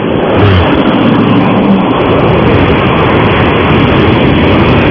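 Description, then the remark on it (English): A car in Manassas, Virginia revs and pulls away from a stoplight that has just turned green, heard over a phone held out of the window: a steady loud roar with low droning tones in the first seconds that blend into continuous road noise. No one speaks. “Are you at a stoplight? In fact, it just turned green.”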